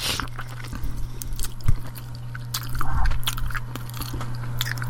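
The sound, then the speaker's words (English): Biting and chewing of juicy Mediterranean chicken, with wet, squishy mastication and occasional crunchy bursts repeating steadily over a low constant hum, no talking. “Sorry, let me bite this chicken first.”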